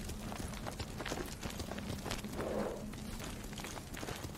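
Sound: horse hooves clip-clopping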